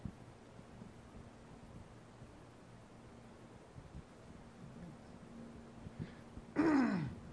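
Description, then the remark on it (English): A single short, rough throat clearing bursts out near the end, after several seconds of near-silence with only a faint steady low hum underneath. “Excuse me, I got to clear my throat.”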